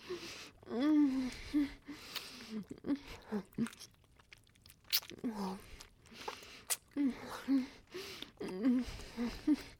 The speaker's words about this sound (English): Pulling tighter on the collar. Oh, you like the sounds I make as I gasp for breath.